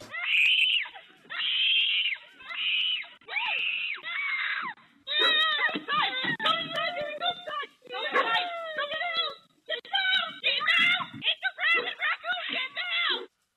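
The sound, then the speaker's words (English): A five-year-old girl screams loudly in a string of shrill, drawn-out bursts, followed by frantic, broken cries and yelps that keep going in agitated fits, as a rabid raccoon attacks and hangs on her at her front door. “Take a listen to this screaming.”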